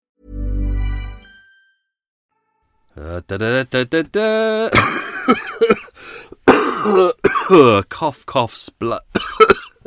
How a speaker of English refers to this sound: cough, cough, splutter. Oh, I coughed and coughed all the way through that. That was a hard one to do.